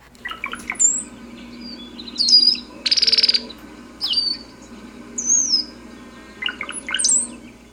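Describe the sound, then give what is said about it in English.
A male brown-headed cowbird sings several times: a short run of low, liquid gurgling notes followed by thin, high sliding whistles. A brief buzzy rattle sounds between phrases, with quiet outdoor ambience throughout. “You can look for these birds in fields, meadows, lawns, and at feeders, and can listen for the liquid-sounding series of low gurgling sounds followed by thin sliding whistles of the male.”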